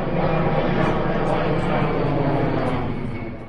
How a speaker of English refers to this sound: So I'm out here in Ridgewood, a suburb of Swords. And I'm not sure if you can hear that aeroplane sound behind us. It's a constant faint drone. Morning time wakes you up pretty early.